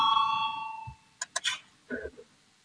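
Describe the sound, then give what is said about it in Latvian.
A loud, sustained electric bell rings steadily for almost a second and then stops, followed by a few soft clicks and knocks. The bell is rung in a parliamentary session to call deputies to vote on proposal 193. “Lūdzu zvanu, balsosim par 193. Deputāta Valainis priekšlikumu.”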